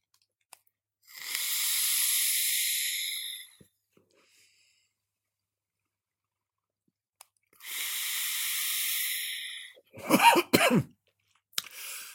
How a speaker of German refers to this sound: Und ich würde sagen, wir gehen jetzt gleich in Medias Res und ich nehme einen Zug aus meinem TFV4 mit 115 Watt mit dem Thai Chai Boba on the Rocks Liquid von PJ Empire.